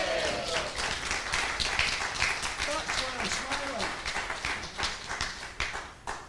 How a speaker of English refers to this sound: Are you sitting down? Are you comfortable? And I want a big cheer for this.